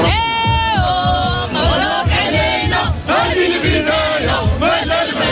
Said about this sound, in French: Des chants à en perdre la voix. Les supporters marocains attendaient une victoire de leur sélection en Coupe du Monde depuis 24 ans. Alors au coup de sifflet final, c'est l'explosion et la naissance de grandes ambitions.